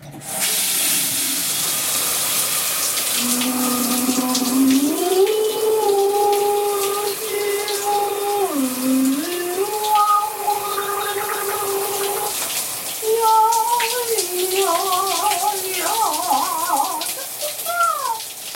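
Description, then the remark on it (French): A shower runs with a steady, hissing spray the whole time, while someone sings or hums a wordless melody under the shower over the rushing water. “Comme beaucoup de gens sur la planète, j'adore chanter sous la douche.”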